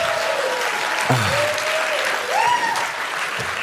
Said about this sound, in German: Herzlichen Dank, du darfst dich wieder hinsetzen. Ein Applaus für unsere freiwillige Person.